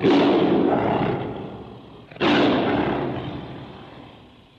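A tiger roar sound effect: two loud roars in a row, each bursting in suddenly with a deep rumbling growl that slowly fades over about two seconds, the second following right after the first.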